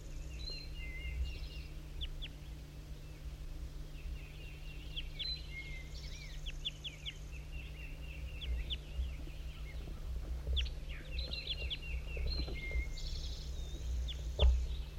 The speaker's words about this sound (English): These are all calls of the wild bird.